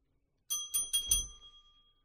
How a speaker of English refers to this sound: I didn't know it was a bell. Oh, damn. It's a bell. Explains that. Why is there a bell with a happy face in here?